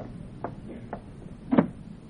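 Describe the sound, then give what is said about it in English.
A door swings shut: two light clicks of handling, then a solid, muffled thud as it closes, with a low background hum and no one speaking. “Close the other door, will you?”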